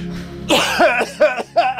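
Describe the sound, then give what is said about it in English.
A loud throat clearing: one harsh rasping burst followed by a few shorter guttural hacks in quick succession, with no talking. “You always got to clear your throat before”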